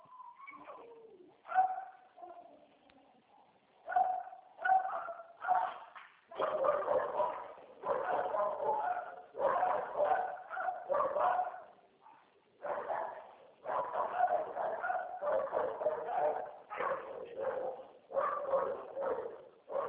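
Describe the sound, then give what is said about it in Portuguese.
Several dogs bark in dense, overlapping volleys that go on almost without pause, sounding somewhat muffled, with no talking over them. “Tá cheio de cachorros.”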